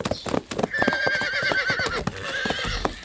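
Two horses gallop toward a castle with a fast, clattering rhythm of hoofbeats while one lets out a long, wavering neigh over the top, loud.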